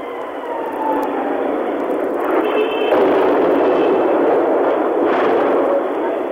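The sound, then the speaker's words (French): A faint whistle of a shell over the white rooftops of Phnom Penh, Cambodia, at 3 p.m. during wartime, over a steady, muffled roar, followed by two heavy blasts in the city centre a couple of seconds apart. The sound is narrow and crackly, like an old radio or archival recording. “Un sifflement au-dessus des toits blancs de la ville, une double explosion en plein cœur de la capitale, ce ne sont pas les seuls.”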